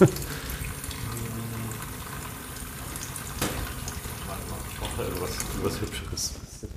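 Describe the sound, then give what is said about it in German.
A sink tap in a chemistry lab runs steadily with a continuous hiss of flowing water, while voices murmur faintly in the background throughout. “Nein, das ist Probedestillierapparat und eine Spüle, die man einmal.”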